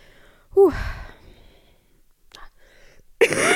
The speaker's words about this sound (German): Ihr hört, ich bin immer noch am Husten, aber das ist ja auch das, was am längsten bleibt. Aber es ist jetzt, also es tut nicht weh, es ist einfach da.